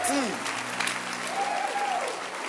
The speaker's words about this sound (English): If you are excited, clap your hands for Jesus. Too much excitement. Come on.